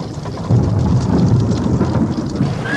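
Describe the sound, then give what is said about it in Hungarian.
An approaching thunderstorm rumbles steadily, deep thunder rolling beneath a constant hiss of heavy rain, loud with no voices. “Mi ez a zaj? Zivatar közeleg.”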